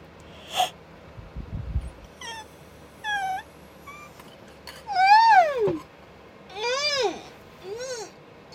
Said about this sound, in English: Do you know what makes a yawn better? Being on a big cushion.